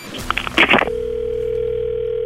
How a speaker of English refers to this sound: Sounds like American ringtone.